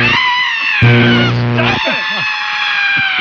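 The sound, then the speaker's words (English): A man lets out a loud, sustained scream that swells for about a second, then trails into strained, wavering vocal noise, intense, with a steady high-pitched background tone throughout. “Stop screaming like that.”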